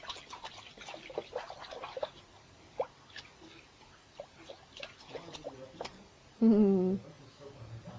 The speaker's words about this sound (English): What happens if I splash too?